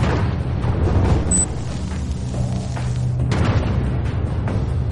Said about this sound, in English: The 10-kiloton blast emits a deadly electromagnetic pulse that spans 3 miles. Planes crash. Cars die. Cell phone towers go dead.